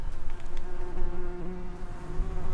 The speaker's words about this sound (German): Den Bienen geht es gut auf der Wiese auf dem Gelände der Technischen Universität Ilmenau. Lilafarbene und gelbe Blumen stehen im hochgewachsenen Gras.